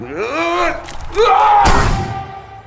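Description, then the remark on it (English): A single solid thud as someone tries to walk through a door that cannot be gone through, landing in the middle of strained, wordless vocal noises that rise in pitch around the impact. “The doors you can't go through? Can't go through the doors.”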